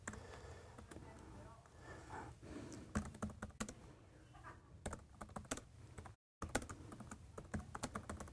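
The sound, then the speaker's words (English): Rapid, uneven clicking of keys on a small computer keyboard, crisp, coming in quick bursts over a low background hum, with one brief silent pause before the typing resumes. “Fat fingers, small keyboard, that's what happens.”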